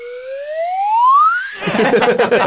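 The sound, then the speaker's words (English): A swanee whistle slides upward in one smooth, steadily rising glide, a bright tone climbing for about a second and a half before it breaks off into a noisy jumble of voices. “And then a swally whistle.”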